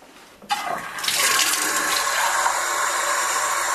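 Water pours into one of four drinking glasses, filling it halfway, in a steady, rushing stream that starts abruptly and grows louder after a moment, without any talking.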